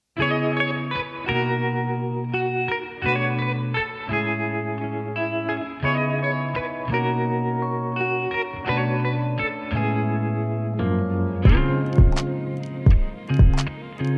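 A soul song plays on the radio show Negra Nit at steady volume, opening with sustained, chorus-tinged chords in a loose rhythm, then punchy drum hits come in near the end. No voices are heard.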